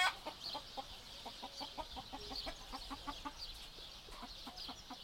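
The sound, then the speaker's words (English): A voice imitates a chicken, producing a steady, rapid run of short clucking sounds, with no talking around them. “And Derren, you were very, very good, but I did at one point think you were going to turn me into a chicken.”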